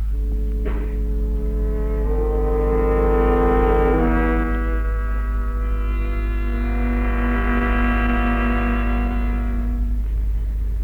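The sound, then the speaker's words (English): A truck approaches, its engine a loud, steady droning tone that steps up in pitch a couple of times as it shifts gears, growing slightly louder before holding level. No one speaks. “Look, Mr. Stevenson, here comes a truck.”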